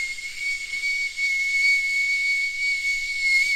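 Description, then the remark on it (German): A person vocally imitates the squeal of a worn car V-belt heard while driving on the motorway with the driver's window open: a steady, high-pitched squeal held unbroken for several seconds over a thick hissing rush. “Ist das das Geräusch eines Keilriemens?”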